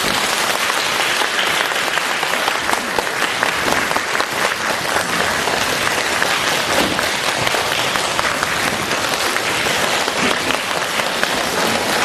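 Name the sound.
warm audience applause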